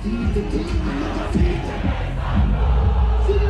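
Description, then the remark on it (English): A large crowd at a concert sings a song together in a loud, steady roar of many voices, the mass of pitched singing wavering continuously with no break for the full length. “Notice the crowd of people in the video singing his song”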